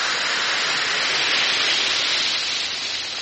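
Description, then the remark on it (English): Steady fizzing hiss of two Alka-Seltzer effervescent tablets dissolving in a glass of water, a dense crackle of tiny bubbles holding even for a few seconds with no voices. “Drop two tablets into a glass of water like this. Listen to it fizz.”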